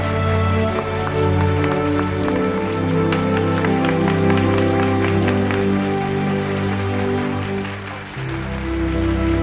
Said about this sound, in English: Gradually, and with a glance to Rebecca, Gloria applauds.